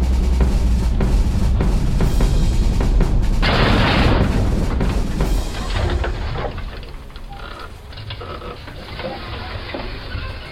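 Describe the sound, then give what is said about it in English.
Rumbling booms and bursts of gunfire that is getting closer echo across a battlefield, with a dense, loud volley in the middle before the noise settles into a lower, continuous rumble. “Listen, gunfire. You're right. And it's getting closer, too.”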